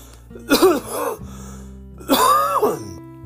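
coughing and throat clearing

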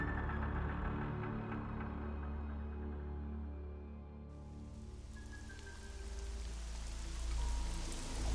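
gentle rain falling

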